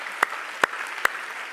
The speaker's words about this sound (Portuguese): Enquanto você está abrindo, em honra à palavra de Deus, vai dar um forte aplauso, uma salva de palmas para a palavra de Deus.